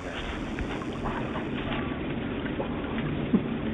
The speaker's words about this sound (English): In the distance, I can hear rushing water.